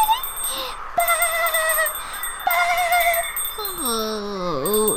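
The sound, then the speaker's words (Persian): A lamb bleats several times in shaky, wavering cries, ending with a longer bleat that quavers and slides downward, over a faint steady background hum. “نکنه که یک بره دیگه است؟”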